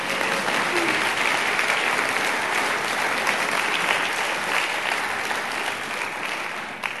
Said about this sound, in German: Ja, da könnt ihr klatschen, preis den Herrn.